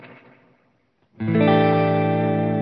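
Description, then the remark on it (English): An electric guitar chord rings out through an amp, its decaying tail smeared by the amp's digital reverb, which sounds like a cross between a plate and a spring, before a brief gap, then a second loud chord sustains with a bright wash of reverb. “It's a digital reverb, but it's kind of a, it seems like a cross between like maybe a plate and a spring.”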